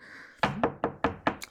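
Firm knocking on a door by someone demanding it be opened, about five or six evenly spaced raps in quick succession, fairly loud, with no voices present.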